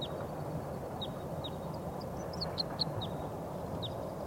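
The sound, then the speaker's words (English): A wild bird sings in a quick series of short, high chirps, a dozen or so in rapid succession, somewhat faint over a steady wash of outdoor background noise. “They're getting excited. I think there's some wild birds coming in. I hear a song of a wild bird.”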